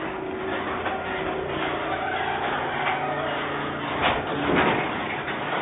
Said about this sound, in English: In my garage, you're going to hear the door open.